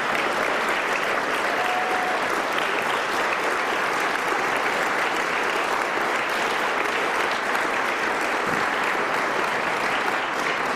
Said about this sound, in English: I think you'd like to give a round of applause to my lovely daughter